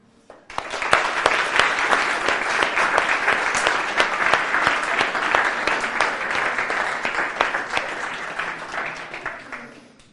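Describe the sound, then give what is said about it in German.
A crowd of parents claps for about ten seconds for their children's achievements over the last few days. Dense overlapping hand claps form a loud, even wash of applause that starts abruptly and tapers slightly at the end. “Und deswegen fände ich es cool, wenn ihr euren Kids einfach mal einen Applaus gebt für das, was sie hier geschafft haben in den letzten Tagen.”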